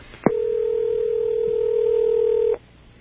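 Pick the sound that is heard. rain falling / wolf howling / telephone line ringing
telephone line ringing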